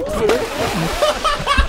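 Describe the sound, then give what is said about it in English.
A heavy, loud splash as a woman falls into water from high up, with a churning wash of spray and voices calling out over it throughout. “But let's hear it one more time because it's a fantastic splash.”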